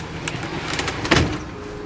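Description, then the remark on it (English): Someone climbs up into a high truck cab, on the highways outside Nelson, New Zealand, with scuffs and light knocks followed by a heavier thump against the metal body, then a low steady hum. “Oh my gosh, how do you even get into one of these? It's so high.”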